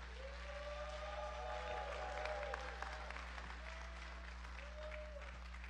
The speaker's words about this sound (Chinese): 今天早上我要邀请我们申培的一对夫妇来跟我们分享他们在申培的见证，来见证神在他们生命的改变。我们一拍手欢迎